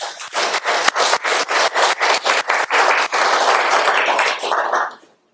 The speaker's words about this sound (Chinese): 好，弟兄姊妹，我们坐着哈，坐着的人呢，请你看看这些妈妈，给他们拍手好吗？